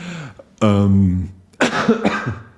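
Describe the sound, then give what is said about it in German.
A drawn-out voiced sound is followed by a cluster of harsh, breathy coughs, fairly loud, with a brief throaty vocal sound at the start. “Aber da immer noch ein bisschen husten.”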